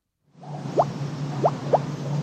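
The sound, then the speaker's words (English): Natural fizzy mineral water bubbling up out of the ground at the Perrier spring owned by Nestle in Vergès, in the south of France, with three distinct hollow gloop sounds, irregularly spaced over a steady low watery murmur, fairly soft. “Hear that gloop gloop sound?”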